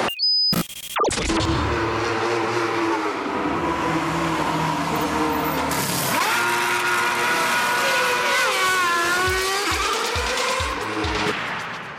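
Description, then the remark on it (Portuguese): A loud segment jingle roars in after a brief click, a dense wall of engine-like revving with rising and falling pitch sweeps, ending in low rhythmic thumps, with no talking. “Dito isso, vamos passar a vinheta, vamos começar a falar sobre Moto 2.”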